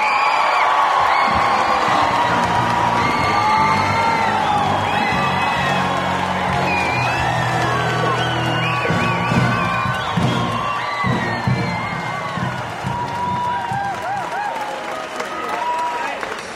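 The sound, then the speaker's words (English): A large crowd in Northwestern College's gymnasium in Northwest Iowa leaps up, cheering, whooping and applauding loudly and continuously as a band ushers in presidential hopeful Mitt Romney, its brass and drums partly buried in the echoing roar. “The crowd leaps up as a band ushers in presidential hopeful and former Massachusetts Governor Mitt Romney.”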